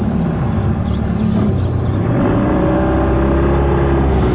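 A boat's outboard motor is started and rumbles loudly throughout as the boat heads up a river, then revs up around the midpoint, its pitch climbing into a steady, droning whine as it gets underway. No one speaks.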